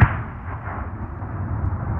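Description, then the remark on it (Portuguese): Gunfire in a land at war: a sharp crack at the very start, then a dull, rumbling noise that lingers at a steady moderate level for about two seconds, with no voices. “Às vezes, adormecia ao som das balas.”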